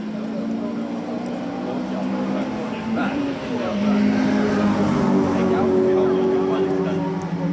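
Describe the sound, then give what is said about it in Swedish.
Two race cars, a green-and-white Volvo and a red-and-white Honda (stripped standard cars fitted with roll cages), drone steadily on a track, their engine pitch shifting as they accelerate, growing louder around the midpoint, then holding a sustained high roar. “Två tävlingsbilar med förare från Hyllinge Motorsällskap var i farten.”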